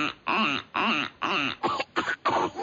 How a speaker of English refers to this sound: This week, we'll be popping out to the farmyard to meet a duck with a bad case of smoker's cough.